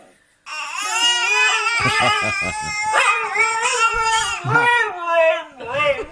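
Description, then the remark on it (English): A dog howls along with a wailing baby, the two high, wavering cries overlapping loudly for several seconds with only brief dips between breaths. “I like best when they're both quiet at the same time, because the dog is like waiting for the animal, for the the animal, the baby to go.”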